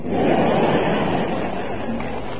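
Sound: audience applause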